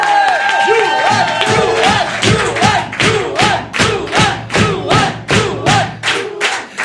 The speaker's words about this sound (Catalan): Rebem un fort aplaudiment a Joan Pere!